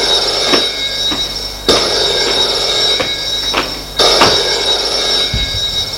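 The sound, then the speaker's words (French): A telephone in an office rings loudly and insistently, its shrill bell tone sustained throughout with repeated ring bursts starting every couple of seconds, and no voices present. “prend le téléphone. Allô ?”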